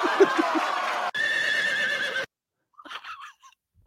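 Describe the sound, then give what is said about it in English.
A loud horse neigh rings out in two long, strained bursts back to back, then breaks off into a few faint, scattered sounds. “I love horses. One of the things we have in common is that we like horses.”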